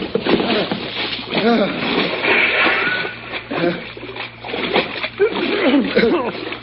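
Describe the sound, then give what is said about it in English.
Heavy splashing and sloshing water as people jump over the side of a boat into cold water, continuous, with bursts of churning spray while people shout and talk over the commotion. “Hey, over the side, ….”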